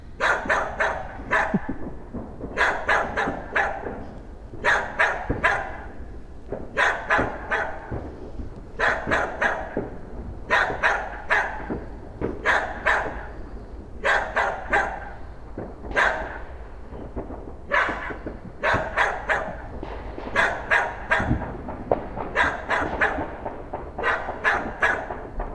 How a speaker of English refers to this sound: He's not a fan. Not a fan. Actually, I think he's barking at you.